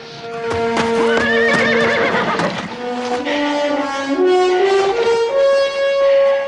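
Horses ridden by Burnett and Simons neigh loudly and repeatedly as they charge towards each other, a busy clamor with the thud of charging hooves running underneath and rising, wavering whinnies overlapping throughout.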